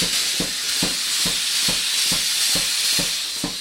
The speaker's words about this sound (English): He's not just about hammer and tongs, although there are a lot of those in the shop. He uses a power hammer, too.